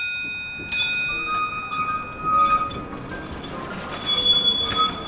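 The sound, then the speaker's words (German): An early Siemens electric tram, first run on 12 May 1881, rolls along rails between Lichterfelde Ost station and the cadet academy at up to 20 km/h, with a steady rumble, high metallic wheel squeal ringing throughout and occasional clinks, swelling slightly louder toward the end. “Und Siemens kann auf dieser Baubahn seine erste Straßenbahn oder seine erste elektrisch betriebene Bahn fahren lassen.”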